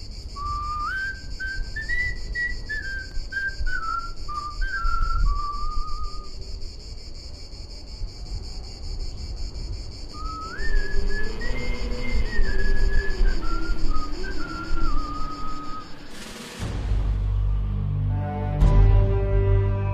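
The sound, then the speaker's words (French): A slow, mournful tune, the wartime song Chant des Partisans, is whistled in two phrases, each note rising and falling in a steady melodic line, over a constant low rumble and high ringing hum, ending with a sharp burst of noise. “De résistants à d'autres, certains se souviennent sûrement du chant des partisans.”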